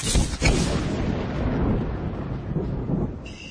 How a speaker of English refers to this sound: Oh, go on, you're supposed to disappear with a roll of thunder. Yeah, what do I do? Just snap my fingers like this?